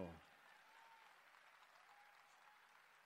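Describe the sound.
Steady applause from a TV studio audience on a TV Pública program, cheering a performer from Santa Fe province. A dense, even clatter of many hands clapping at moderate volume, with a brief voice fragment at the very start.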